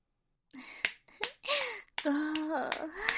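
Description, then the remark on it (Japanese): A few sharp, crisp hand claps, about three, spaced irregularly between breathy, moaning vocal sounds from a woman that rise and fall in pitch. No words are spoken. “数を数えてる間、一番反応が良かった喘ぎ手拍子してあげる。”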